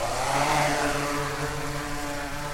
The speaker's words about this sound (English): The drone shoots skyward, flying at about 160 feet. It's preloaded with a flight path by the UConn team. We look up as the drone passes above the apples and us, all the while snapping hundreds of pictures of the crops.